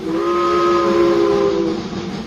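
A loud steam train whistle in Northern Ontario blows one long, steady chord for about a second and a half, then fades into a breathy hiss of steam.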